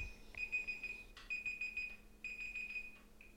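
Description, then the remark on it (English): A digital timer alarm beeps in three quick bursts of rapid high-pitched pips, each burst separated by a short pause, fairly faint with a low steady hum underneath and no talking. “Have my timer on. Gonna have to take a break soon.”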